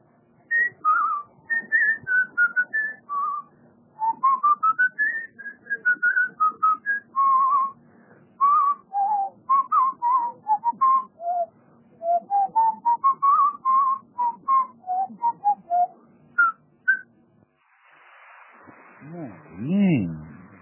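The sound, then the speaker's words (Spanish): A person, the first participant in a whistling game, whistles a lively, wandering melody of short chirpy notes for about seventeen seconds, clear, followed briefly by a voice speaking. “Bueno, a ver, dame el primer silbido, Es mi papá.”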